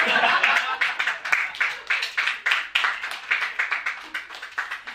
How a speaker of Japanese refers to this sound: 手拍子だけじゃなくてアンコールまで言っていただいて、そればっかり20分ぐらい聞いてたかったですね。